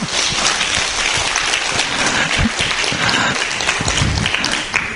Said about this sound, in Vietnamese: cho nên cho thầy Quảng Đạo tràng pháo tay lớn.